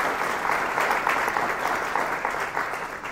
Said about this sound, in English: So please, a round of applause for all who made this possible.